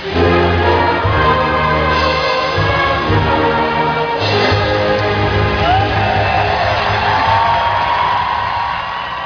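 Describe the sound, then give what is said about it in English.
A large crowd cheers loudly and continuously at night at an Honor Flight event in Swanson, reported from the Toledo area. A dense roar of voices with scattered whoops and shouts holds steady for about nine seconds, with some sustained tonal, chant-like layers underneath. “Just an amazing crowd out here tonight”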